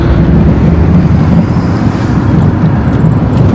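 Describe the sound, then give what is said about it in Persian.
A steady, loud low rumble of a car on the move, engine and road noise droning continuously with no breaks and no voices. “ماشین دنبالمون هنوز؟”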